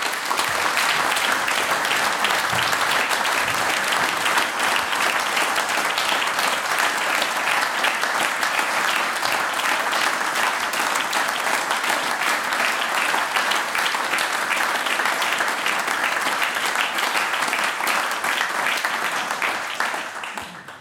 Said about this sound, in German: Das ist euer Applaus.